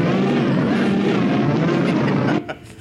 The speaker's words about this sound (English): Okay. Warp engines at full. Are they? Hey, can somebody get out and push?